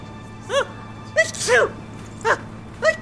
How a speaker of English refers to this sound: The teacher sneezes.